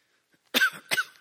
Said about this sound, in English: If I get in a coughing fit